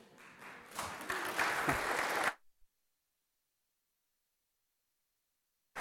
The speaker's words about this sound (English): Praise God. I think he deserves a round of applause.